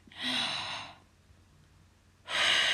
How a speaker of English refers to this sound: Take another deep breath, sweetheart. Your breathing's a little laboured. Breathe in.